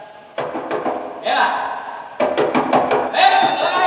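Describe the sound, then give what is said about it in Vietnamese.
Two bursts of rapid, firm knocking on a door, each a quick run of raps, with a voice calling out loudly in between and over the second burst. “Chị Vú ơi, mở cửa giùm tôi chị Vú.”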